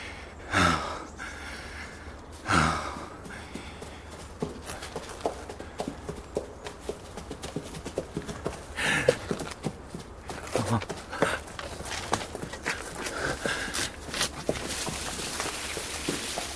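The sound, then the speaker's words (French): Hooves of several horses trample and clop steadily along a road at moderate volume, with a few loud snorts and breathy puffs breaking through early on and midway. “Il fut interrompu dans sa méditation, aussi louable que plaisante, par le piétinement de chevaux sur la route.”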